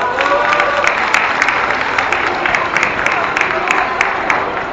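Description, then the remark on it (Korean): A crowd applauds steadily, dense overlapping claps sustained at an even loudness for the whole stretch, with a few sharper individual claps standing out and faint voices mixed in, applauding a forceful speech at a candlelight rally. “다시 한번 힘찬 연설 감사드리며 박수 부탁드리겠습니다.”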